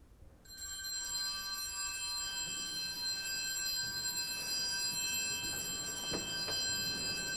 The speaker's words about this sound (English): The doors of St. Michael's Cathedral in downtown Springfield were open for people to come in and silently pray. The quiet contemplation was interrupted briefly by the gentle ringing of bells marking the end of the observance of a minute of silence.